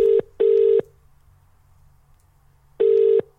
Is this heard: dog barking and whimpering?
no